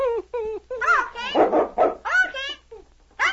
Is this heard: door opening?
no